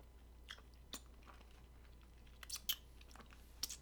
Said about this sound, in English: Too busy chewing on my sucker. Makes for a good podcast. Yep. Chewing on a sucker. I took out like a. Like a good fifth of it.